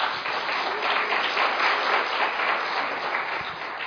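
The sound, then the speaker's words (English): A crowd at a gathering devoted to Baba applauds themselves for several seconds: a dense, even wash of many hands clapping at once, with no voices rising above it. “Okay, clap for yourself.”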